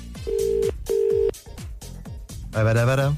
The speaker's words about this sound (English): All right, I'm going to call... Where am I ringing? Kildare. It's ringing.